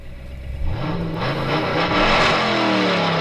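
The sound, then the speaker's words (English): A car engine revs up loudly, its pitch climbing steadily over a few seconds as it accelerates, continuous with no voices. “We're talking about Cars.”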